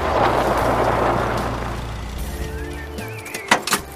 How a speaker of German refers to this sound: Schließlich sah er ein Auto näher kommen.